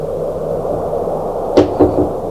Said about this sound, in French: On a frappé à la porte.